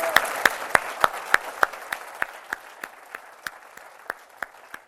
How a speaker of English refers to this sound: So I'd like you all to agree with me. And again, let's applaud this.